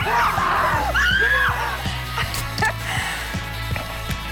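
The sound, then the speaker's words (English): People at Six Flags Fright Fest give shrill, frightened screams that rise and swoop in the first second or so, then fade into a dense, noisy din with a steady low thumping pulse underneath. “It's hard not to be excited with an ice-cold Coke and Six Flags, so we challenged real people to make it through Fright Fest without screaming.”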